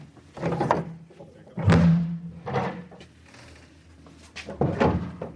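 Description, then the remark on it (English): A heavy door, the first of the doors down a staircase beneath a lecture theatre leading to a vault, is worked open and shut, with a handful of solid clunks and thuds, one drawn into a low groaning scrape, spaced irregularly over a few seconds. “It's the first door.”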